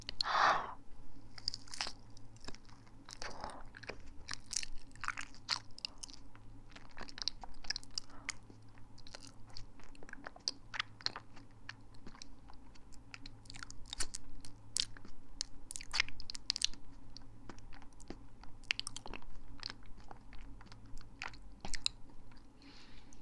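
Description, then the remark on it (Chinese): Wet chewing of a soft, sweet, cold, slightly overripe banana bought several days earlier, with an initial bite followed by steady, irregular mouth clicks and squelches over a faint low hum, no talking. “但是好甜啊，这个香蕉。还蛮好吃的”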